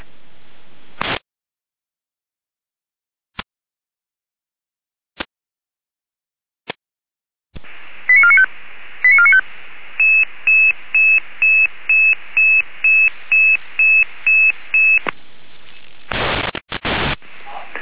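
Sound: emergency alerting tones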